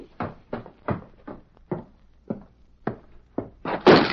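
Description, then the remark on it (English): The door of the Kilgrew gang's cabin as the Lone Ranger dismounts and walks in one morning: a run of about nine evenly spaced, heavy wooden thuds, ending in a louder, longer clatter. No voices. “He reined up at the door. Ready, Silver? Dismounted and walked in.”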